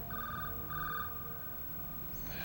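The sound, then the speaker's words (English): A telephone rings in two short, trilling bursts with a brief pause between them, clear over a low background hum, with no one speaking. “The next morning, Jake answers his phone.”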